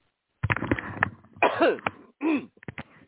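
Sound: coughing and throat clearing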